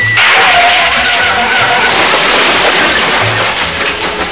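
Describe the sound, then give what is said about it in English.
A car's tires skid with a loud, sustained screech and rushing friction noise for about four seconds as its emergency brake is engaged, steady throughout, with no voices. “The emergency brake on your car.”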